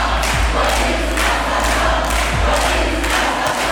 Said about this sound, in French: La foule est ensuite rentrée dans le bâtiment du tribunal pour huer les 6 policiers, leurs avocats, ainsi que le ministère public et le juge.